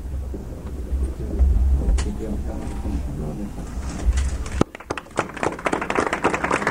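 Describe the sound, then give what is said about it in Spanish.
A crowd bursts into steady, dense applause after a few seconds of murmuring voices over a low rumble, at the inauguration of the Radio Castellón Cadena SER facilities as the conseller de Presidencia José Joaquín Ripoll unveils a commemorative plaque; the clapping carries on loudly to the end. “Oyen ustedes los aplausos.”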